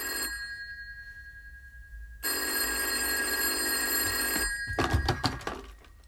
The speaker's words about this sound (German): Halt! Hat da nicht das Telefon geklingelt?